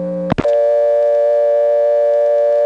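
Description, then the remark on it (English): A steady, loud dial tone on a payphone line in Siler City hums continuously, briefly interrupted near the start by a sharp click as the line switches, then resumes unbroken to the end. “Now here in Siler City, the payphones are on the step, and the dial tone”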